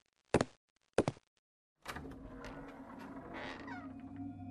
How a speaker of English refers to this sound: Okay. I'll unlock the door.